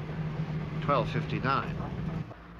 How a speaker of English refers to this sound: The Morris drives into a village.